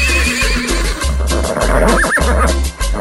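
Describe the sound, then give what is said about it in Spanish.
A horse neighs loudly, a quavering whinny over a dense, noisy background with a steady pulsing low rumble; no one speaks. “Si ustedes, como yo, y le gustan los caballos, la cita es en Balsa de Atenas, hoy al mediodía, porque hay una cabalgata bien bonita”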